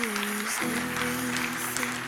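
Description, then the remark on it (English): Steady applause from a crowd giving a hand to people walking up to the front, a dense wash of clapping that runs throughout, with a low sustained hum or organ-like tone underneath. “Please give them a hand as they come up here.”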